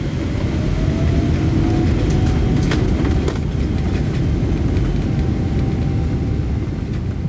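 Steady, dense low roar of an airplane cabin in flight at about 900 km/h over the Atlantic with a tailwind, constant and enveloping with a faint whine above it, no voices present.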